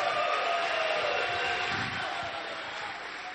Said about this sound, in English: Come on. Let's clap. Let's give God our best.